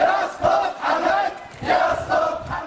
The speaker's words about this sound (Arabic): وسبقت جمعة الشعائر مسيرات ليلية في مناطق سترة والشهركان، فيما أقام شباب بلدة المعامير مسيرة شموع في طرق البلدة مستلهمين مشهد خسوف القمر ليطلقوا نداءات المطالبة بتغيير النظام.